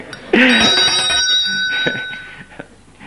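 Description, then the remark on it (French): A single bright bell strike rings out loudly, its clear metallic tone lingering and slowly fading over a couple of seconds, with no talking. “quand on essaye de rendre un son de cloche”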